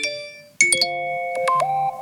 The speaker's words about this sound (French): Des notifications viennent de tomber sur votre portable. C'est par exemple un message WhatsApp de votre cousin qui vous invite à déjeuner.